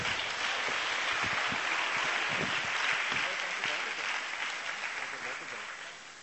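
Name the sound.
audience hand clapping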